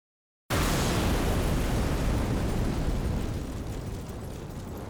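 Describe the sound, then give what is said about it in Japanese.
A sudden explosion at the Motenashi Dome of Kanazawa Station bursts in after a brief silence, setting off a vehicle fire and covering the dome in smoke. A loud, broad roar then rumbles on steadily, slowly easing in strength over the next few seconds, with no voices. “爆発と同時に車両火災が発生した模様。”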